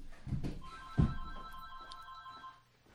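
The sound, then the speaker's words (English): A telephone rings with a steady electronic tone, held for about two seconds, over some low thumping handling noise and no talking. “And your phone.”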